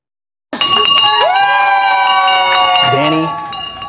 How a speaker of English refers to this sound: This was his celebratory walk and bell ring.